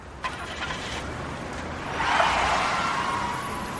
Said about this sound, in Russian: Потом быстро вышел на улицу, где дожидалась у тротуара машина с открытой дверцей, скользнул на сиденье, и мужчина, сидящий за рулем, дал полный газ.